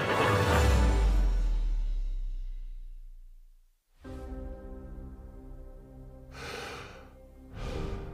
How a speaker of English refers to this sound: Breathing out, breathing in, more precious than it's ever been. We can't take it for granted.